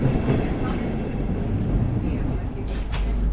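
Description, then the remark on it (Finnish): Steady low rumble of a train in motion approaching Vierumäki station, heard from inside a carriage, with constant rolling noise and faint rattles, plus a brief high squeal near the end. “No niin, nyt alamme tässä lähestyä Vierumäen asemaa ja me tässä vaiheessa poistummekin junasta.”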